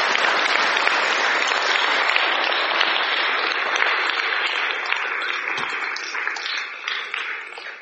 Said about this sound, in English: Amazing conference. Let's give a quick round of applause to all the local ones here for hosting it.